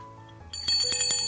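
A small bell, rung by a speaker at a church gathering to call for attention, rings several times in quick succession, bright and metallic with a shimmering ring that lingers between strikes, fairly loud with no talking.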